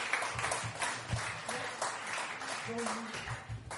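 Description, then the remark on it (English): A crowd at a show in Preston applauds steadily as a performer comes back onto the stage, a dense wash of many hands clapping at a fairly even level for several seconds, with a murmur of voices mixed underneath. “Give him a round of applause while he comes back onto the stage.”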